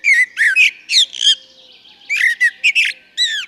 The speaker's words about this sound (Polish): no to już możemy usłyszeć śpiewające kosy. Każdy, kto rano wstaje, jeśli gdzieś tam w okolicach domu albo bloku, w którym mieszka, ma kępę krzewów, jakieś pojedyncze drzewa, może, jak tylko robi się brzask, usłyszeć śpiew kosa.